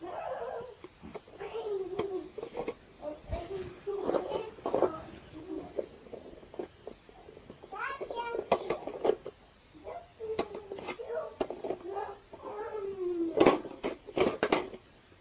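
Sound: child imitating a horse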